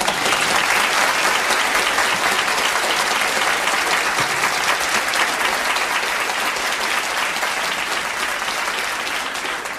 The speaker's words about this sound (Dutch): En het applaus was tevens voor Jacques, Jacques, Cor en Onno op het toneel.